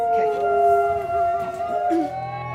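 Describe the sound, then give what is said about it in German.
Several wolves howl together in a steady chorus, long overlapping tones held throughout at a fairly loud, even level, with one voice briefly rising and dipping near the end. “Wie schade wäre es gewesen, wenn ich dieses einzigartige Hörerlebnis nicht für die Ewigkeit aufgenommen hätte. Und wer weiß, eine Wolfsbegegnung ist ja in Zukunft nicht ausgeschlossen.”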